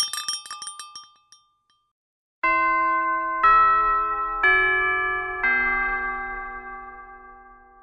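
A quick burst of light tinkling clinks, then a pause before four sustained, ringing chime tones strike in a descending sequence, each note resonating and overlapping the last, clear and with no voices.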